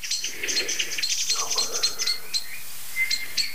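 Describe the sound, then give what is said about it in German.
Agitated bird alarm calls from two species overlap: rapid, high-pitched chattering notes with sharp repeated chips, joined briefly by a lower call, fairly loud and continuous without any talking. “Das Ganze wird heftiger, weil nämlich eine zweite Vogelart dazu kommt.”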